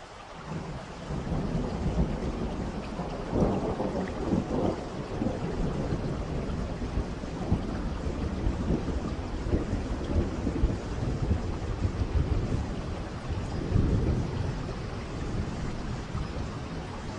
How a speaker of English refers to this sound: Two favorites are light rain and flowing rain.